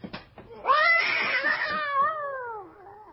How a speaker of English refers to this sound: That bloody cat. I thought when I said that cat was never to... No. Not in the room. On the lawn. Quite still. Just looking up.